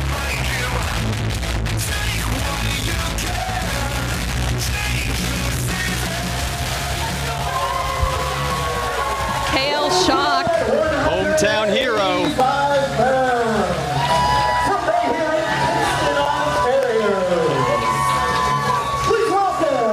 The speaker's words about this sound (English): Hit the Spire for this graduation match. The crowd is electric here at the beginning of our second half. They love him. He is a crowd pleaser.